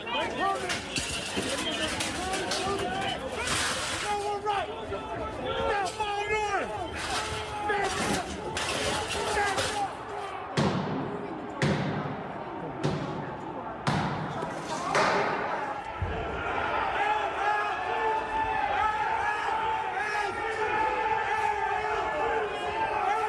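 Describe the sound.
A mob inside the Capitol shouting and clamoring as the doors are forced open, with several heavy slams and shattering crashes in a burst midway, then a dense mass of voices surging in as people stream inside.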